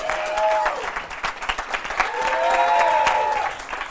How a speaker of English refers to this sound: Ladies and gentlemen, it's that time of the show. We have to choose a winner. By round of applause, which was your favorite haiku?